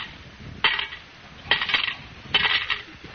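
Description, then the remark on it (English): Coins totalling 40 cents drop into a collection kitty in the radio show Our Miss Brooks, three metallic, jingling bursts, each a bright clatter of clinks that rings briefly and fades, spaced about a second apart with no talking. “You put 40 in the kitty.”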